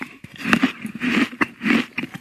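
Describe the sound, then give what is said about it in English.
Crisp crunching as someone bites into an apple, followed by a few wet, rhythmic chews with sharp crackling snaps over roughly two seconds, no talking. “Oh, that's an apple. It's definitely an apple.”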